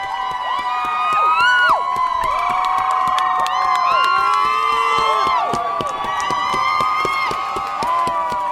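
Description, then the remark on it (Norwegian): A large crowd erupts in sustained cheering and shouting, loud and continuous, with many overlapping voices whooping and yelling in celebration, no single voice standing out, as the verdict is announced finding Chauvin guilty on all three counts. “Og så kom dommen, og da brøt ut et sånt kollektivt gledesbrøl.”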